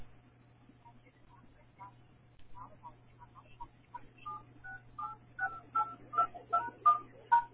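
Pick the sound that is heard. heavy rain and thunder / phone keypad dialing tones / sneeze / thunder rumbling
phone keypad dialing tones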